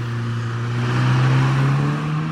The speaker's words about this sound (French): Je vis la voiture disparaître au coin de la maison.